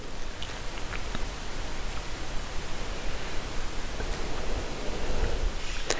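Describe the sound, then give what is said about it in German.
Steady rain falls continuously outside a balcony door, a dense hiss with scattered sharper drops tapping, no voices, holding an even moderate level throughout. “Und ich habe das Gefühl, der Regen bringt irgendwie Klarheit und Ordnung heute in mir.”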